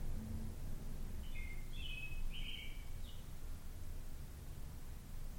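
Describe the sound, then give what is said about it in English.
A few short, high bird chirps sound in a quick cluster partway through, fairly faint over a steady outdoor rumble at a house, with no one talking. “before I left her house while hearing these birds chirping.”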